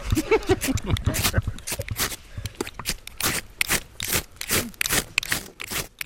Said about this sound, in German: Also da sprühen erstmal nur Funken, gar nicht so einfach ein Feuer zu entflammen. Das liegt auch daran, dass du zuerst richtig Zunder finden musst.